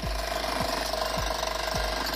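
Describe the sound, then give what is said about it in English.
A jackhammer pounds pavement in a steady, loud, unbroken rattle, with a low thudding dip recurring about every half second. No one speaks. “But when it comes to loud, annoying sounds, jackhammers are king.”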